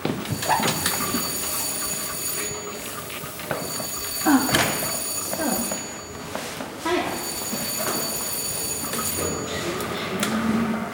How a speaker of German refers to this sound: War das dritte Klingelzeichen.